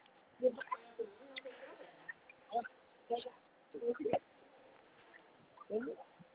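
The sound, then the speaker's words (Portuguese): A pet parrot interrupts a conversation, imitating a woman, in a string of loud, choppy squawks and chattering bursts, some almost speech-like, spaced irregularly over several seconds. “O papagaio chega e fala mais alto.”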